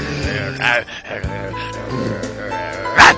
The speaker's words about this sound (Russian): Так вот, и опять эта проклятая собака! Да прогоните же ее